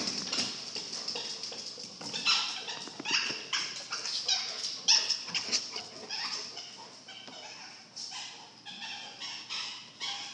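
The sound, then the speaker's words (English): A dog chews on a toy, a steady run of rapid, irregular high squeaks and wet crunching clicks lasting the whole time, fairly loud, with no one talking. “Let him run around a bit with that toy. Munching on a mogwai.”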